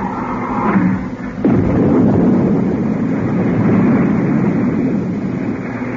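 Retro rockets fire after the firing switch is pressed, increasing speed rather than braking: a steady low hum gives way, after about a second and a half, to a sudden loud, rushing roar that holds steady and unbroken to the end.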